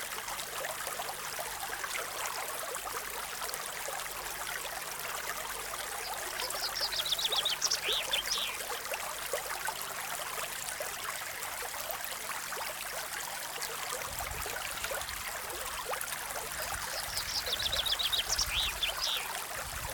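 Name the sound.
flowing river water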